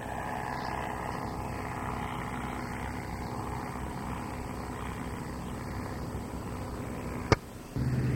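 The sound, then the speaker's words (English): A small blue Waco biplane engine drones steadily with a thin, high whistle riding over the rumble, then a sharp click near the end brings a brief dip before the roar resumes. “It's kind of a little bit of a whistling sound to it.”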